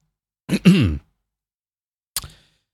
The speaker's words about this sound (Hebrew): חודש וחצי אחרי קורונה, ואני עדיין משתעל.